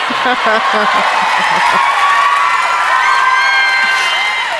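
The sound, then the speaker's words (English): An audience bursts into steady applause mixed with whoops and cheers, a dense wash of clapping with shouted voices rising over it and holding loud throughout. “It's the easy applause lines that really drive you.”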